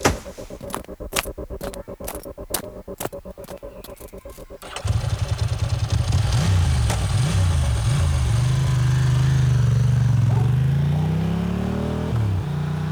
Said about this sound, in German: Nachdem der Mann auf seinem Motorrad davongefahren war